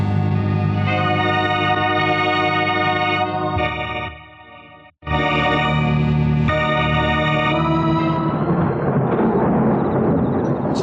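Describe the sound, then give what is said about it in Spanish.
A dramatic lightning-strike effect of a lightning bolt striking a tree: a loud, sudden crash cuts in after a brief lull, then rolls into heavy rumbling noise, all layered over a sustained droning chord with no talking. “Y de pronto, un relámpago cae en este sitio, deslumbrando a todos.”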